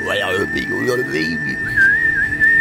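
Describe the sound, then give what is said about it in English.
A voice hoots in low, breathy tones while a thin, steady whistle sounds at the same time, the whistle wavering in pitch near the end; fairly loud, an imitation by a person. “Ah, no, there's a big sort of whistly thing in it as well.”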